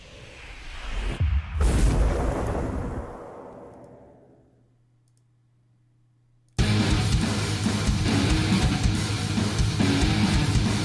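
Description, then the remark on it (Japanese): A loud explosion bursts out and rumbles away over a few seconds, a low hum lingers briefly, then a dense, blaring wall of sound abruptly kicks in. No one speaks. “あ、はい、なんせ爆発させまくりたかった”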